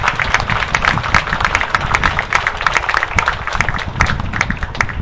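A crowd applauds steadily, with many overlapping claps forming a dense, even patter that holds loud for the whole stretch, no voices breaking through.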